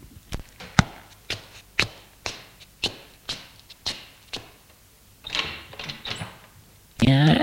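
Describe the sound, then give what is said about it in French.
After a knock, a woman takes a dozen steady footsteps and opens the door, with a longer scraping, creaking stretch as it swings. A voice bursts in loudly right at the end. “Elle va ouvrir.”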